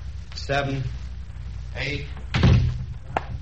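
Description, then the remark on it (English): A door is shut with a solid thud partway through, following some muffled voices and shuffling; the impact is fairly loud, with a brief knock afterward. “Shut the door and start counting.”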